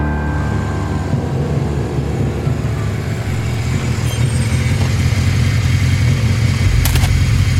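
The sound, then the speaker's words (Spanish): A large-displacement motorcycle engine rumbles steadily, its deep, throaty idle loud and continuous, swelling slightly toward the end with no voices present. “Su lado arisco, avinagrado, desagradable, de mala hostia o como quiera llamarlo, lo lleva a su culmen cuando baja de su moto de gran cilindrada.”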